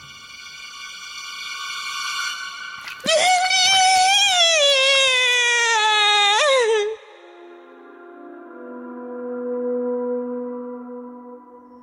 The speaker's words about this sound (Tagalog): Pagkatapos ng lahat, isang malakas na sigaw ang umalingaw-ngaw mula sa lumang bahay.